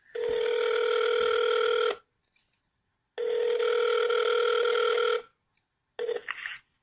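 A phone call's ringback tone sounds over a speakerphone as a call is placed to one host's mother: two steady, buzzy two-second rings separated by silence, then a third ring that starts and cuts off. No one speaks.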